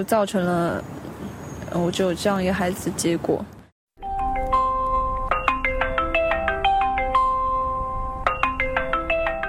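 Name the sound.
mobile phone ringtone ringing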